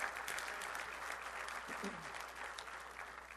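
An audience claps steadily for the women in the room, a dense wash of many hands sustained for a few seconds at moderate volume, with faint voices murmuring underneath.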